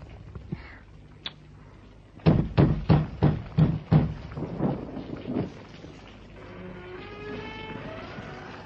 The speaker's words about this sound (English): The rain. This is too much rain. The crops are being ruined.